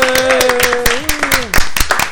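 Loud, sharp hand claps in a quick, steady rhythm of about ten over two seconds, right up against the microphone, with a sustained, slowly gliding tone running underneath.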